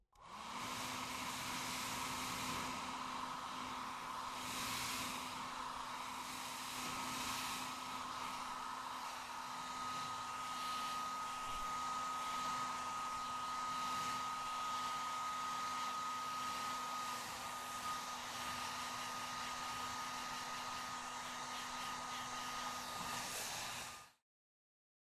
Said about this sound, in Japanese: それじゃあドライヤーしますね。スイッチオン。